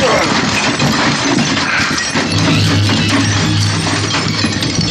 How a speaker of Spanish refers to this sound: mil pedazos de cristal vuelan. Un impacto tremendo del cuerpo de Calimán y un fulgor de cristales lanzados como catapulta.